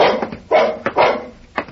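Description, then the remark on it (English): A dog barks several times in quick, uneven bursts, loud, with a couple of sharper yips between the fuller barks. “I'm getting the dog's food ready.”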